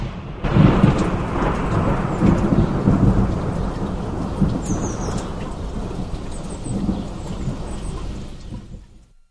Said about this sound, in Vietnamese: Thỉnh thoảng một ánh chớp chiếu sáng chân trời, có thể tưởng chừng như cái chân trời ấy vội vã chạy trốn cho xa tiếng ồn ào gầm rít của cơn giông.